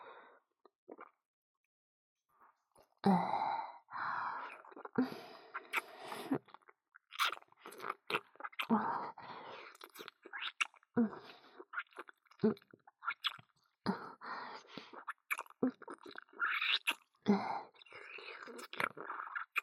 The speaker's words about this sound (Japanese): 承知しました。飲み込みやすいように、今度は咀嚼いたしますね。